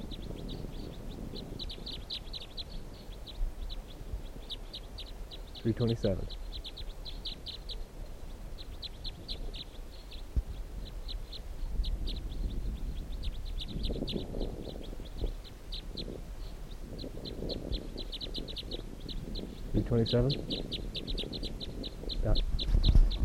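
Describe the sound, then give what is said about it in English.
A female bird calls outdoors in a steady run of high, thin chirps that repeats through the whole stretch, broken now and then by a few louder, lower calls over a low rumbling background. “So this bird, let's see, stop.”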